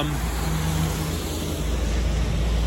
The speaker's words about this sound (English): Buses.